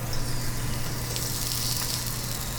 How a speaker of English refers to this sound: my chicken sizzling in the skillet.